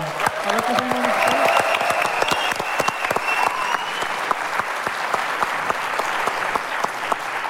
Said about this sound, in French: Vous pouvez applaudir aussi JP Pianiste qui vient de prendre place